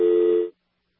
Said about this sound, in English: Just a dial tone, yeah.